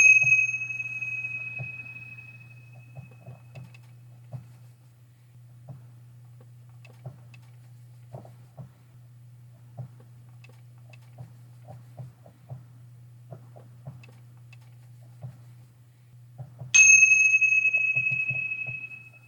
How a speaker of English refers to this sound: Thanks, Karen, for opening the last part of our circle with the bells.